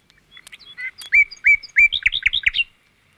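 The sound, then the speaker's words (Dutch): A nightingale sings a short, lively phrase of varied chirps and whistles that builds into rapid, loud, rich notes, then stops. There are no voices. “Maar toen de nachtegaal ging zingen.”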